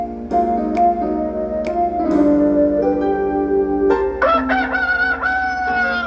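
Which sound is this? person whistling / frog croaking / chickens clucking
chickens clucking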